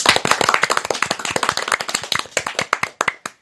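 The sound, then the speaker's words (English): Applause of rapid, sharp hand claps at the end of a Christmas-themed show, dense and lively at first, then thinning into scattered claps before stopping. No voices. “Let's have a round of sand applause for another awesome show.”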